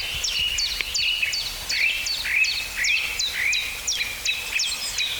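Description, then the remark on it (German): Blackbird-like birdsong of bright, high whistled phrases repeated in a steady rhythm about twice a second, clear, with no voices over it. “Oh, das war fast ein Amsel.”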